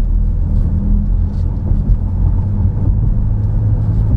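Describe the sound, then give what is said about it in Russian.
Steady low engine drone and road rumble from inside a moving, fairly large car, continuous and fairly loud throughout with no voices. “Да, если бы я ехал в маленькой машинке, то уж совсем бы нам никаких бы шансов не было ничего посмотреть.”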